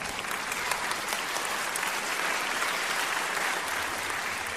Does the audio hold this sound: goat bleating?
no